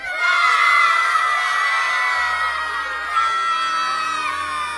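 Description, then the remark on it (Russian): A crowd of children at a school shouts, cheers and claps together in a loud, sustained roar of high-pitched voices. The noise holds steady for the whole stretch, with a slight surge near the end. “Все опять закричали и захлопали, потому что швабра очень полезная вещь.”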